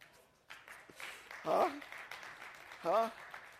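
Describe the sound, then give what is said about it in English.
A crowd claps in a steady, moderate patter in response to the line that the greatest test of faith is to be good to people who are not good to you, with two brief shouted voices rising over the applause partway through. “Yeah, clap on that one.”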